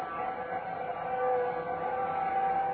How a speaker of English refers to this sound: Let me see if I can get through a window. You can hear the bells and the whistles out there.